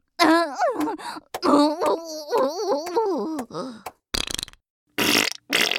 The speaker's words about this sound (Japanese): おなら漏れる。